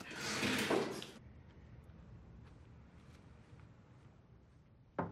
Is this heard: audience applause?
no